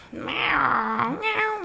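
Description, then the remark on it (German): A person imitates how their own talkative cats meow, in a low, grumbling voice: one drawn-out, falling moan followed by a shorter whiny rise, sounding complaining rather than bright. “Meine Katzen miauen so.”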